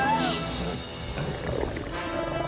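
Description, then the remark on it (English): A pack of wolves snarling and growling in a rough, continuous chorus as they emerge from the trees of a snowy forest and encircle a horse and rider, fairly loud for a couple of seconds, with a brief higher cry at the start. “A pack of sneering, snarling wolves emerge from behind the trees and encircle them.”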